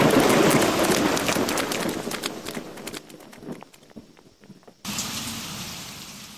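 A cold rainstorm hisses in a dense, steady wash of pattering drops, thins to scattered taps for a couple of seconds, then surges back to a full, loud downpour.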